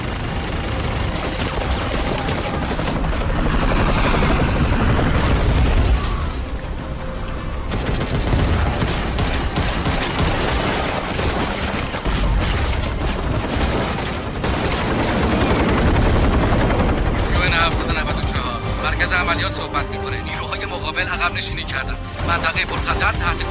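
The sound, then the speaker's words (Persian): A UN air operations helicopter, call sign 794, roars as it enters a high-risk zone with clearance to fire, while bursts of rapid gunfire and heavy blasts rattle almost continuously over it, loud and dense throughout, like an intense battle scene. “از عملیات هوایی UN 794 هستم. وارد منطقه پرخطر شدیم. درخواست شلیک دارم. 794 اجازه شلیک داری.”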